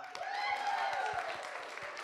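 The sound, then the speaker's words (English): A steady round of applause for Canada, announced as third place in a competition, dense overlapping claps at even loudness throughout, with a rising and falling cheer or whoop carried over the top of the clapping. “Normally you would get a bronze medal, but we don't have any bronze medals, so all you have is a round of applause.”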